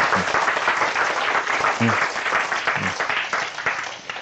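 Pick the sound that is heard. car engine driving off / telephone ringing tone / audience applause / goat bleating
audience applause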